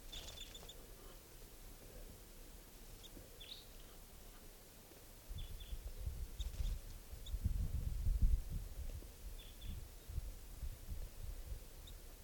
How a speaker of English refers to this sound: Hear the birds.